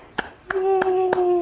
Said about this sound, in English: Can you clap?